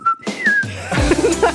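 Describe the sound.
A person whistles an imitation of a lark's song on Radio Steiermark: a clear, steady high note followed by a sliding warble, fairly loud, briefly trailing into other sound at the end.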